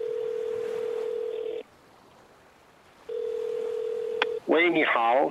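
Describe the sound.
Telephone tones over a speakerphone as a call is placed: two long, steady beeps separated by a pause of silence, with a faint click near the end of the second before a voice begins speaking.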